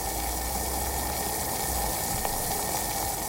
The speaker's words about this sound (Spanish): Mejor me pondré a hervir el agua para tomar un rico té de jengibre.